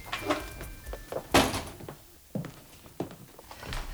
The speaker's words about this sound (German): Er wollte trotzdem klingeln, als er bemerkte, dass die Tür nur angelehnt war. Vorsichtig stieß er sie auf.